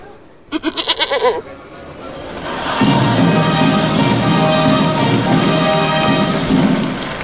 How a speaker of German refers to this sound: Dann meckert er, der Bock der Geiße, gelaufen ist's mal wieder.